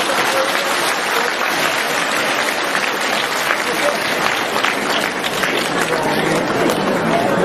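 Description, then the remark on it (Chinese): A crowd applauds steadily for the full stretch, a dense, even wash of many hands clapping at a loud, constant level with no pauses or voices standing out. “鼓掌吧，冲下去。”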